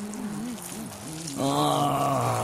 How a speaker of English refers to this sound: Oh, boy, was my bladder full. Oh. Hey, you! I can't hear you. I'm pissing.